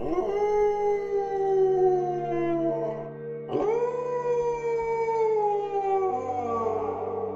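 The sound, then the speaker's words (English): Two long, eerie, ghost-like howls, each sliding slowly downward in pitch, loud, with the second starting abruptly right after the first fades. “isn't a ghost, but does convey most of his edits through ghoulish howling noises.”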